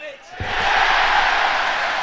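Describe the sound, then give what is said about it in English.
A brief lull, then Nottingham Forest fans erupt in a loud, sustained cheer as James McAtee scores a late penalty against Ferencváros, a dense roar of many voices that swells quickly and holds steady to the end. “And there it goes into the back of the net, as you heard the cheer from the Forest fans.”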